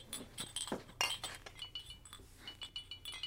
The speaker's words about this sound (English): Spiramycin... These are antibiotics. Shit. Load up. Here, put this cloth in between and don't break the glass jars. I'm being careful.